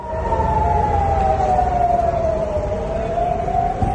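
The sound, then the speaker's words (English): A sustained air raid siren wails steadily with a slowly falling pitch over Tel Aviv, Israel, during a Hezbollah ballistic missile attack, heard over a dense, rumbling background of low noise, with no voices present. “Sirens were heard over the city and Israeli defence systems intercepted the missile.”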